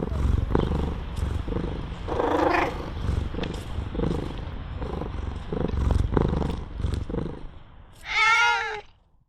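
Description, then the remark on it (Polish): A steady, rumbling purr runs throughout, with a brief cat vocalization early on and a loud, drawn-out meow near the end. “Tutaj te koty mi się wydaje, że się porozumiewają.”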